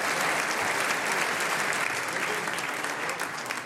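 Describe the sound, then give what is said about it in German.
Sustained audience applause for an 11-year-old harmonica player, a dense steady wash of many hands clapping at an even loudness for several seconds, with no one speaking over it. “Das ist ein Applaus”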